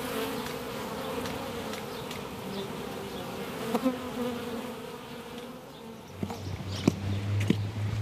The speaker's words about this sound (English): Because bees are very therapeutic. It's very calming. If you can get over the thought of being stung, and that very, very rarely happens.